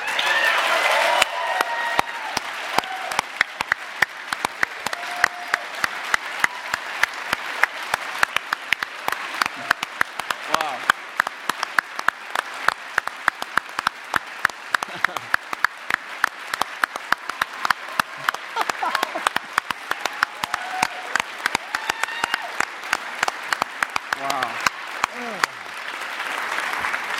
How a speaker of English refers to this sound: you'll get why the people that do know them are clapping